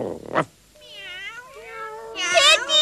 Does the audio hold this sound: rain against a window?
no